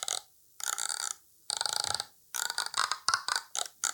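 A bosduivel, an instrument used to clear areas of spirits, played in loud, raspy, croaking bursts: three longer growls, then a quicker run of short grunting pulses, like a belching creature. No one speaks.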